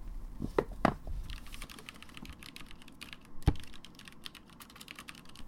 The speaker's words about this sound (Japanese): まずはこの散らかったファイルを棚に戻しますよ。よいしょっと。